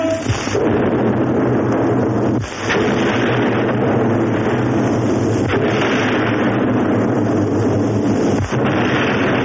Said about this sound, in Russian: Пушки Чапаева, которыми командовал Хлебников, таки дослужившийся до генерала, разносят остатки белых.